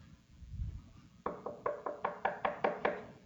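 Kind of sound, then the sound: impact, knocking on a door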